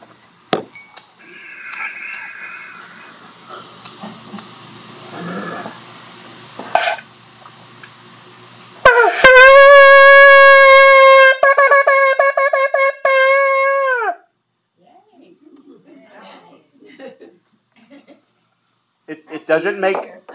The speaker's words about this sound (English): The highlight of the synagogue service is the blowing of the shofar, the ram's horn. Let's see if I can do it.